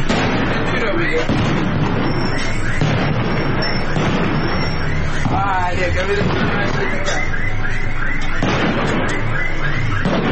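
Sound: continuous gunfire and explosions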